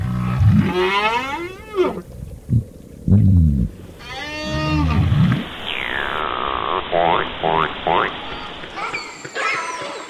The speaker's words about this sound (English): Day and night, whales, fish, and other species are singing, using their sounds, grunts, whistles, drumming, echolocation to forage, to find mates, to avoid predators.